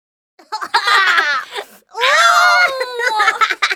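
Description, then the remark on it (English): Children shrieking, wailing and laughing in two loud, high-pitched bursts, the second a long rising and falling cry, with excited voices mixed in and no clear words. “Kids, quieten down. Oh, Jeff, let them be. They're just letting off steam.”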